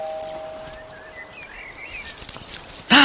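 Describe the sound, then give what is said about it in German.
Soft, scratchy rustling of leaves and twigs as a cat moves through bushes in a large garden and jumps out of them, building in small bursts and ending with a sudden louder crackle, with no voices. “Da raschelt was. Hä? Oh, es war nur eine Katze, die aus dem Gebüsch gesprungen ist.”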